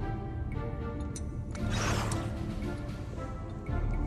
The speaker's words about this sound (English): That's not a hum. That's a bloody washing machine. A hum is a nice gentle hum.